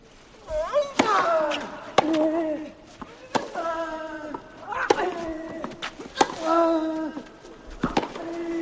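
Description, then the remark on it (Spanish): A tennis rally between Rafael Nadal and Dominic Thiem on the Philippe Chatrier court: sharp, crisp ball strikes pop back and forth at an uneven pace, roughly seven hits, with loud vocal grunts and shouts ringing out around several of the shots. “Estáis sentados en primera fila, vais a oír el tenis como solo se oye en Tiempo de Juego.”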